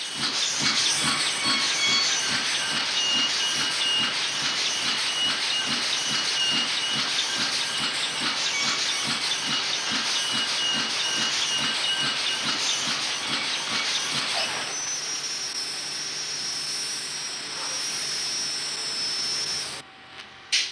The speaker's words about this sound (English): here in Washington. This is the only place where there are presses like this that turn out these pieces of paper we call money.